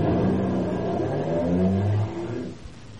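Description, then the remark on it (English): A car engine revs loudly in an airport parking lot, its pitch climbing, then the sound drops and fades slightly as the car pulls away to drive to Los Angeles. No one speaks. “when he joins me at the airport parking lot and we get in a car to drive to Los Angeles.”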